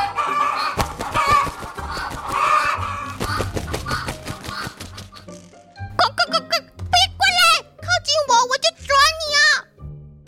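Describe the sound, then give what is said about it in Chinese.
Several caged chickens squawk and cluck excitedly in quick, overlapping bursts after a few seconds of lively talking, the calls loud and agitated, rising and wavering in pitch. “笼子里的鸡原本羽毛没有光彩，两只眼睛无神，看着波给走过来，居然情绪激动了起来。”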